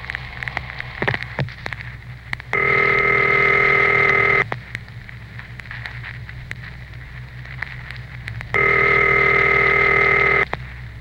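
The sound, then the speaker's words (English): A telephone rings twice, each ring a steady buzzing tone lasting about two seconds with a long pause between, going unanswered over a constant crackly hiss; a call placed at random for a radio survey. “Let's make another AOR at random phone call.”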